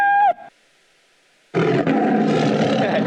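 After a short pitched tone and a second of silence, a loud, rough lion roar sound effect called Lion 5, from the example project Don't Pet the Cat, bursts in and rumbles steadily to the end, deep and gravelly.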